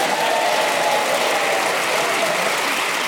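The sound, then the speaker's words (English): A studio audience applauds steadily, dense clapping at an even level throughout, with no voices heard over it; a round of applause for the four panellists at the end of an edition of the show Just a Minute. “I give a round of applause to all four of them.”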